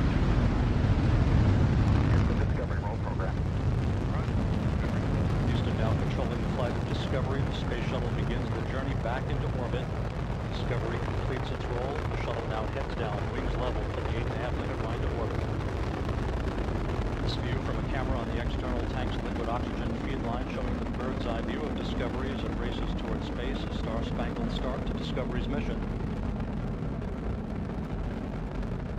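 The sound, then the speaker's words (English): Space Shuttle Discovery's rocket engines roar at liftoff after main engine start and booster ignition, a loud, continuous, crackling rumble that fills the whole clip, with a voice faintly audible beneath the thunderous noise. “Main engine start. 2, 1, booster ignition and liftoff of the Space Shuttle Discovery returning to the space station, paving the way for future missions beyond.”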